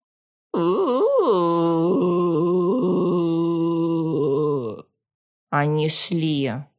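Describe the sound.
A woman imitates a zombie groan in a soundproofed ward: a long, loud, drawn-out moaning voice lasting several seconds, a short pause, then a second shorter groan that rises and wavers.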